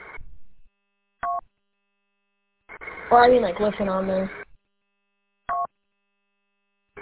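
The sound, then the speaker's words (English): A shortwave radio station's buzzer tone, with the station operator on the buzzer, sounds in short, harsh bursts at irregular intervals, with a longer stretch of muffled voice and buzz over the radio in the middle. “I want to let you know really quick, the operator's on right now, on the buzzer, so you might want to go, because I just heard the mic get picked up.”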